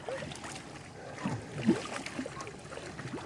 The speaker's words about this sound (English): They're dragging this boat. Coming up for air about every 30 seconds. They do it for hours at a time.